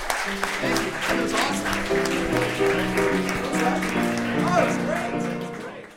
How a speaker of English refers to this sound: Ladies and gentlemen, please clap